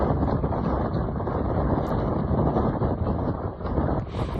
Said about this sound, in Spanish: Esto que has escuchado es el torrente de agua que fluye bajo el puente del Tajo de Ronda, nutriendo el Guadalevín.